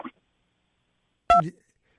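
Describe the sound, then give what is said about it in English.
A short electronic beep on a phone line, a brief tone that sounds once after a pause and blends with a clipped fragment of voice. A tiny snatch of speech comes just before. “There was a couple of beeps there.”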